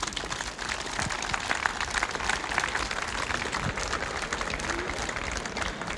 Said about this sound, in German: Herzlichen Dank an das Ensemble für die wunderschöne musikalische Einstimmung. Und ich glaube, nochmal einen schönen Applaus zum Abgang.